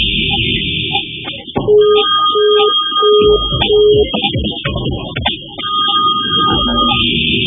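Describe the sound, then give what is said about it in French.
A phone line rings out unanswered with a quick series of repeated electronic tones, four evenly spaced beeps, over a dense, busy background that continues after the ringing stops. “Allô? Allô? Allô? Il ne répond pas?”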